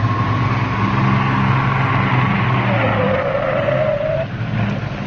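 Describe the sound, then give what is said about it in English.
The engine of a stolen Jaguar car roars under heavy load as it is driven hard, revving high and straining continuously, with a rising whine partway through; loud, no talking. “Beating the fuck out of that woman's car, man.”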